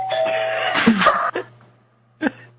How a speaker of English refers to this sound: Who got the doorbell? Oh, is that us? Is that our door?